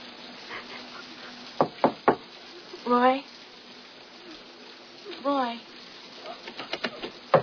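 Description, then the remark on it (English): Three sharp knocks on a door, then a raised voice shouting, then a flurry of quicker, lighter knocks near the end. The knocks sound loud against a steady low background hum. “Open this door! Open this door!”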